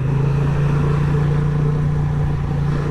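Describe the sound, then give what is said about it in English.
A Honda motorcycle engine drones steadily throughout as the bike rounds a roundabout, leans into a turn and accelerates away, with a strong low hum that holds an even pitch and loudness. No voices are heard over it. “Oh, the bike just feels lovely leaning into a turn. Accelerate away.”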